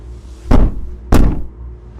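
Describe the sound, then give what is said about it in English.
Two heavy, muffled thuds land about half a second apart, someone banging on a hotel room wall, with a low hum underneath and no voices. “The room next door to me keeps banging on the wall.”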